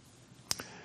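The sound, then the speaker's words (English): Two quick, crisp papery flicks in close succession as the audience turns Bible pages to 1 Corinthians chapter 10 during a pastor's sermon, rising briefly out of quiet with no one speaking. “You know, for a pastor, there's no sound better than the sound of those turning pages.”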